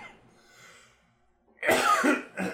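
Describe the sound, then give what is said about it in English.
A quiet pause breaks into a loud, harsh cough, quickly followed by a second shorter one, with no talking. “Just coughing into the void.”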